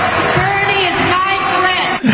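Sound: crowd booing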